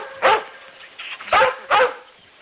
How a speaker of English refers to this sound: There's nothing to bark at, Lassie. I'd not be too sure, miss. Things speak to her that don't speak to us.